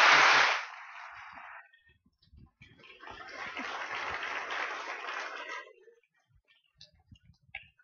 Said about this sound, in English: Thank you very much indeed. It's not often you get an applause before you've said anything.